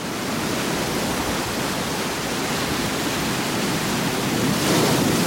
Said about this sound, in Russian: Волны, как бульдоги, со всех сторон морды в пене.